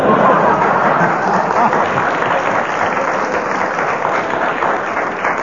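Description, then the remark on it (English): Sustained applause from a large audience, a dense, steady wash of many hands clapping at once, fairly loud and close, holding evenly throughout with a faint murmur of voices underneath. “You get that audience going, and no matter what you say, they applaud you.”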